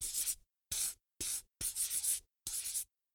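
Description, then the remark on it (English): A yellow pencil scratches back and forth on paper in five quick colouring strokes, colouring in a drawing of a beetle, each a short raspy burst with brief pauses between, fairly quiet, with no voices. “Put a circle round it with a green pencil and colour it in with a yellow pencil.”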